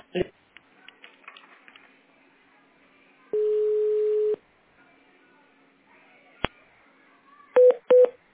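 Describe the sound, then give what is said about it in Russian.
Telephone keypad tones pressed on a call to an automated phone menu: a steady, about one-second electronic tone in the middle, then two short, sharp beeps in quick succession near the end, with soft line noise and a faint voice earlier. “Пожалуйста, для соединения с бухгалтерией нажмите 1.”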